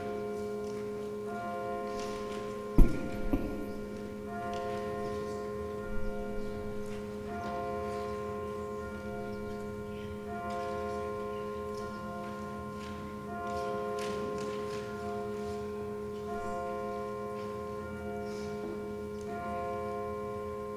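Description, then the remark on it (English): Church bells ring steadily with repeated strikes, their sustained tones blending into a continuous shimmering hum. The sound is moderately loud, with no voices. “We'll let those bells finish and then we'll get started.”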